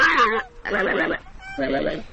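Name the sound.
gelada monkey gargling call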